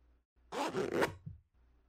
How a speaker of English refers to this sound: Perfect. You're being so good. Now zip them up.